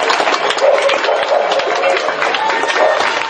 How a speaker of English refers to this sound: Clapping and cheering could be heard throughout the UK last night. Residents were asked to take a moment, stand up, and applaud all the doctors, nurses, and other medical professionals on the front lines of the pandemic.